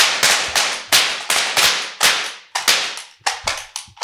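Confetti cannons fire about a dozen sharp, hissing pops in quick, uneven succession, each loud burst trailing off briefly before the next. No voices are heard.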